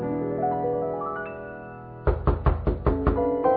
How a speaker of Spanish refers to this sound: No bien acababan los dos amigos el segundo ajenjo, cuando se oyó llamar discretamente a la puerta de la sala.